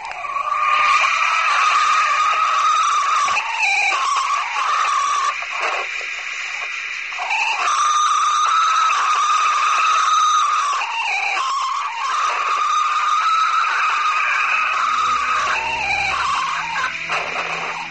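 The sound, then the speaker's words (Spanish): A drawn-out, wavering moan-like cry recorded in a forest, which analyses attributed to a still unknown animal creature similar to humans, high and strained, rising and sliding in long continuous wails with brief breaks, loud and steady throughout with no talking. “Parecía un quejido. Los análisis desvelaron que dicho sonido pertenecía a una criatura animal similar al ser humano, pero todavía desconocida.”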